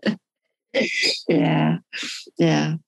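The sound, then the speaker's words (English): A pet bird named George sings in five short bursts, its warbling, voice-like calls rising and falling with brief pauses between them and no other sounds around. “He's actually a really cool bird.”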